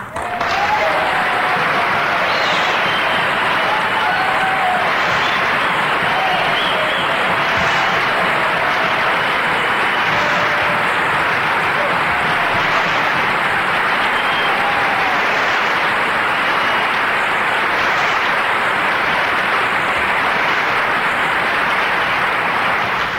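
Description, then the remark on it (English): Sustained, loud applause from a large audience fills the whole stretch, a dense steady wash of clapping with no break and no one speaking over it. “You know, I'm letting you applaud a lot because the preacher back here, my favorite preacher, doesn't preach as long as my other favorite preacher.”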